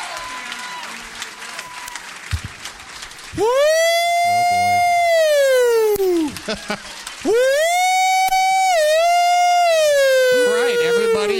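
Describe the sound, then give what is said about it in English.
A building alarm wails in two long, loud, sweeping tones that rise and slowly fall, following a few seconds of applause and crowd noise. “File out of the building as apparently some sort of alarm has gone off.”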